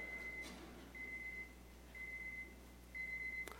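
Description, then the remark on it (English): An electronic alarm from a newly set-up alarm system beeps four times in a steady rhythm during a sermon, each high-pitched tone lasting about half a second with short gaps between, over a faint hum and no talking. “by the way, that's our new alarm system when I'm supposed to quit preaching, I think, that we've set up.”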